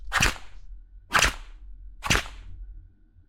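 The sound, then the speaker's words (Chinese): Three sharp whip cracks snap at an even pace, about a second apart, fairly loud over a faint low rumble, with no one speaking. “我叫你张嘴，你是想吃鞭子吗？”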